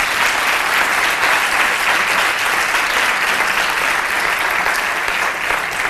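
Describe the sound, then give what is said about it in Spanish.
Loud, sustained audience applause fills the whole stretch, a dense wash of many hands clapping at a steady, unbroken level from start to finish, for a band of teachers from the Escuela Superior de la Industria Musical (ESIM) at a Consejo Social awards event. “Un aplauso muy fuerte para la ESIM.”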